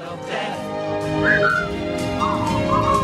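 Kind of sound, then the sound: human body sound, person whistling a tune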